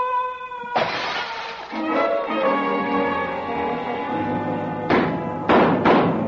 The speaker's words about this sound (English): did old Breck go crashing through that window